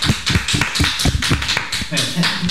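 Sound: clapping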